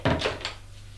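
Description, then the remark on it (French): A door in a house opens with a quick series of three wooden clunks and rattles in the first half-second, then fades, leaving a steady low hum underneath. “Elle ouvre une porte.”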